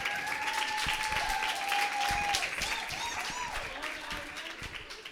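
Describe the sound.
An audience applauds steadily to welcome a poet from Uruguay about to read, a dense wash of many hands clapping that holds for several seconds and then slowly thins out, with a few voices and whistle-like tones mixed in.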